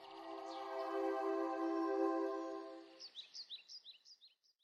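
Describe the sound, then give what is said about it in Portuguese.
A Senzontle, the bird of a thousand songs, mimics a toucan call: a long, buzzy, nasal croak held for a few seconds, followed by a quick run of bright, high chirps. Clear, with no talking. “Aqueles que ouviram o seu som dizem que o pássaro dos mil cantos pode perfeitamente imitar o som dos pássaros mais comuns, como o tucano.”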